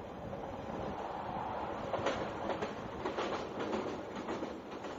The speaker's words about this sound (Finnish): Juna jyskyttää halki lumisen aution maan.